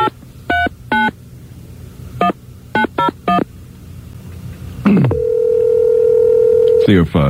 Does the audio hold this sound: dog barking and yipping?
no